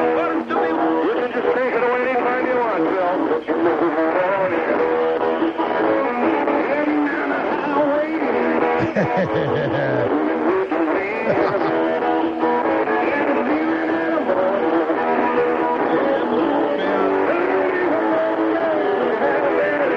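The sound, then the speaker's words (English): A live band song heard through a phone line, thin and muffled with the lows and highs cut off, playing continuously and steadily loud for the whole stretch, with dense layered instruments and no pauses. “I like the way that sounds, even though it sounds like crap over the phone line.”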